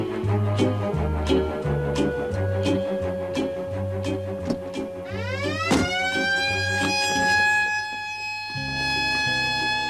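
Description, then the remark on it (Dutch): A loud electronic car alarm, installed under the car's bonnet, cycles through its patterns, first a rapid pulsing two-tone honk, then rising whooping sweeps, before the pulsing returns. No one speaks. “De alarminstallatie onder de motorkap kost 125 gulden.”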